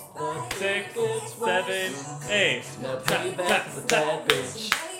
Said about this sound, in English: Okay, let's all clap. Ready? We're going double time.